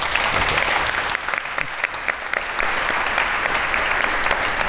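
An audience claps steadily throughout, a dense, sustained wash of many hands at a fairly loud, even level with no voices over it.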